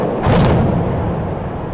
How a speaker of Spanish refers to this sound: Y 40 años de historia industrial que han desaparecido en 5 segundos. Se ha realizado la última voladura controlada de la última gran instalación de la térmica de Meirama, la caldera de su antigua central.